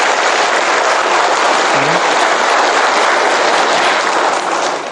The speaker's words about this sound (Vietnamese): Thôi thì xin đại chúng tặng cho sư cô một tràng pháo tay để mừng thọ.